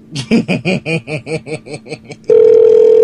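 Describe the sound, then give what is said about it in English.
An outgoing phone call's ringing tone while calling Walmart: a quick run of stuttering, pulsed bursts gives way to a loud, steady electronic tone that holds to the end, clear, with no talking. “They'll pick up.”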